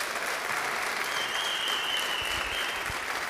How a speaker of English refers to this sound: We are recognizing our graduates today. Can we give our graduates a round of applause?